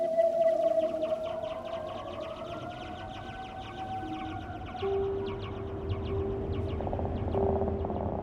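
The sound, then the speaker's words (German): Whale song rings out: long, tonal moans that swoop and hold steady, layered over a murky underwater hiss with faint, rapid clicking throughout. No voices are present. “Riesentintenfische, leuchtende Korallen, singende Wale.”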